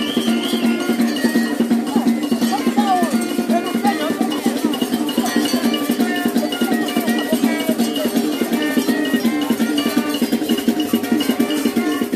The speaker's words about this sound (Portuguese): Você acabou de ouvir o maracatu Cambinda Brasileira, de Nazaré da Mata.